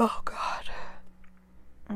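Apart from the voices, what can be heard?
yawn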